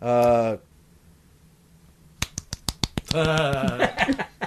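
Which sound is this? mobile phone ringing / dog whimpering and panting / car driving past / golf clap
golf clap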